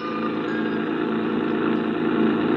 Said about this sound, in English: I rented a creaky old truck and headed for Barnesboro.